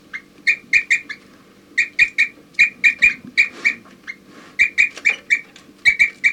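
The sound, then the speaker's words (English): Birds in a flock give repeated short, bright, high chirps in quick clusters of three or four, pausing between bursts, over a faint low background hum. “4-3 occasionally chirping in.”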